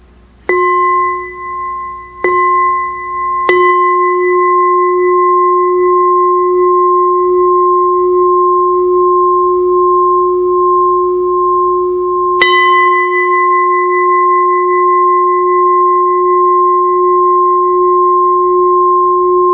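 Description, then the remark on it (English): A meditation bell is struck several times in quick succession, then once more after a pause, to end a Dhamma talk session; each strike leaves a long, steady ringing tone that sustains clearly with no talking. “Okay, so so sit back and I will invite to sound the bell so that we can stop here.”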